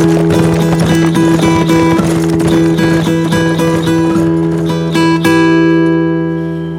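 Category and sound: animal, horses galloping away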